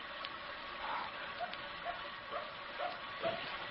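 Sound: dog barking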